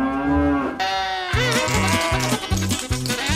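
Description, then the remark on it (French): A bull lets out a long, deep bellow, then a run of loud, rhythmic low pulses follows in a steady repeating pattern, with no voices. “Le taureau est vif et balade notre héros à travers toute l'île.”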